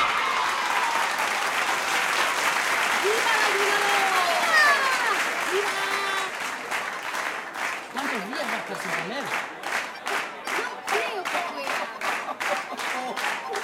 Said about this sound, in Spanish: El retador máximo de la naturaleza, lo que todos queríamos ver, un aplauso para el ayudador.